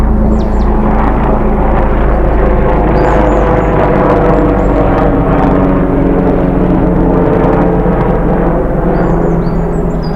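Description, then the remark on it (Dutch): A steady, loud helicopter engine drone fills the whole stretch with a low rumbling hum, while faint bird chirps flicker high above it now and then. “Je zou kunnen zeggen, in de ronkende helikoptermotor klinkt ook de eerste lentebloesem.”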